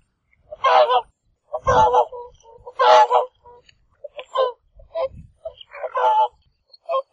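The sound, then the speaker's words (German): Whooper swans in Iceland call in a loose series of loud, bugling honks, some drawn out and others shorter, trading back and forth over several seconds with no other sound beneath them. “Ein paar Singschwäne stellten sich auch noch ein.”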